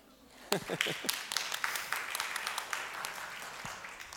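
A burst of audience applause starts abruptly and continues as steady, dense clapping from many hands, moderately loud throughout.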